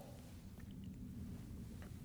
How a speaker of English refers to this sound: I was thinking that was odd thunder.